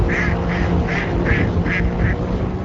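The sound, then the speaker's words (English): A duck quacks six times in a steady, rapid series as boats head upstream on a canal at nightfall, scaring ducks out of the water, over a constant low rumble like boat engines or water noise. “As night fell and steam began rising from what looked like milk chocolate-colored waters, boats left the staging area and headed upstream, scaring ducks out of the water.”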